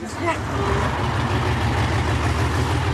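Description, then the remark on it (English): A bus engine idles with a steady, low rumble that holds evenly for the whole few seconds, with faint muffled voices briefly audible at the start; the bus is carrying a group of travellers into Serbia. “takes the bus into Serbia, the fourth country on her trail.”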